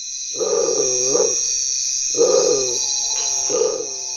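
A tiger-striped bird gives three deep, wavering, growl-like calls that sound like a big cat's roar, the first long and the others shorter, over a steady high-pitched insect-like hiss.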